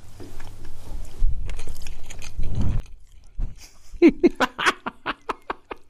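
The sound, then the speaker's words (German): Wet, squelchy chewing of a soaked chocolate cake with a marzipan layer, eaten with a full mouth, with soft smacking and mumbled sounds, followed by a rapid series of crisp clicking bites in the second half. “Mit vollem Mund rede ich auch weiter.”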